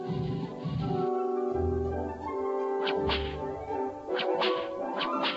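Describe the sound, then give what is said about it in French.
Several sharp whip cracks from an adventure video game, used in fights, snap out over a busy, tonal game soundtrack, arriving irregularly toward the end, fairly loud. “On passe vraiment de bons moments à se creuser la tête pour dénicher des objets, pousser des blocs de pierre qui bloquent le passage, ou se bagarrer à coups de fouet ou de revolver contre les cruels nazis.”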